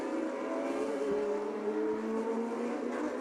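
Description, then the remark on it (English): A safety car engine hums at a steady, fairly even pitch for a few seconds as it goes around a race track during a motor race, a continuous mid-level drone with no voices over it. “Still the safety car that goes around as we come to complete another lap.”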